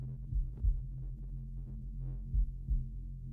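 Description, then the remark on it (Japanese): The slow heartbeat of the person talking thumps in low, muffled double pulses, two beats a few seconds apart, over a steady deep hum, with no voices. “そう、今聞こえる鼓動の音、私の心臓の鼓動の音、これに合わせて”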